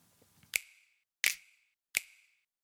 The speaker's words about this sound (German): dieser eine Schnipser hier ziemlich undynamisch einfach vor sich hin schnippt, also immer quasi mit der gleichen Power und dass sich dann natürlich in die Quere kommt mit dem anderen Schnipser. Hören wir mal zusammen die beiden.